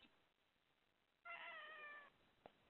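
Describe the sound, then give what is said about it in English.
A single drawn-out cat meow, clear, lasting under a second against a quiet background, followed by a brief faint knock. “Kitty cat.”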